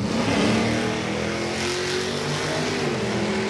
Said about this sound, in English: Hot rods, souped-up cars, and EVs line up for the regular Friday night drag races at Portland International Raceway. The winner of this race is a Tesla Roadster.